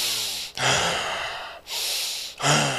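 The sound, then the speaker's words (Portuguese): A person snorts angrily through the nose, three forceful, breathy huffs in quick succession, loud, with no talking. “Fungou? A palavra ira na Bíblia é nariz. Nariz. Porque quando a gente fica irado, o que a gente faz?”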